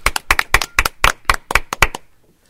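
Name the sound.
applause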